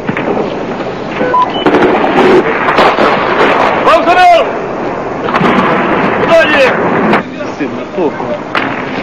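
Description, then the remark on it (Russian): Gunshots crack out amid a loud, chaotic scene during an assault on a television centre, with sharp bursts standing out around the middle over a constant roar and people shouting. “Выстрелил и смотрит, убил кого-нибудь или нет.”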